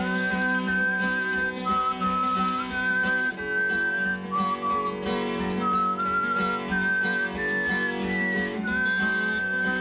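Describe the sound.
A melodic whistled tune, the introduction to a version of America the Beautiful, plays over a steady instrumental accompaniment, the clear whistle carrying a slow, sustained melody line from start to finish with no talking.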